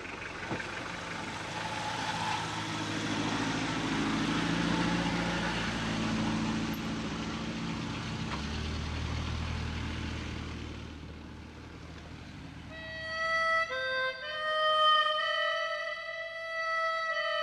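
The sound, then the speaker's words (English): A steady car engine drone with a low rumble runs for several seconds as a car heads for Hunsdorf and the Autobahn, then fades as tonal music rises near the end. No one speaks. “Then it's time to load the car and head for Hunsdorf, the Autobahn, and another life.”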